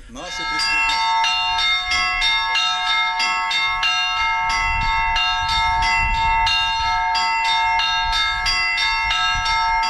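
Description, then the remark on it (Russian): Bells of a bell-ringers' school's training belfry at a monastery ring loud in a brisk, steady peal, several bells struck in quick succession with bright overlapping tones sustained throughout. “На средства гранта были приобретены колокола для учебной звонницы.”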